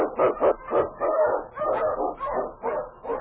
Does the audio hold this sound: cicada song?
no